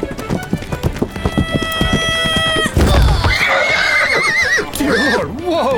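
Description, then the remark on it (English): A horse named Plato gives a loud, wavering whinny after a quick run of hoofbeats clopping, with a sustained high tone ringing over the opening steps. “You ran directly in front of my horse!”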